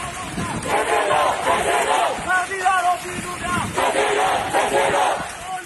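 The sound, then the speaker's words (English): Protesters in Yangon, Myanmar, supporters of Aung San Suu Kyi carrying her pictures, chant and shout together during a quick peace march down the street ahead of her sentencing: a loud, rhythmic surge with overlapping calls and a steady babble of many people beneath, sustained throughout. “They did a quick little peace march down the street, chanting as they marched down the street.”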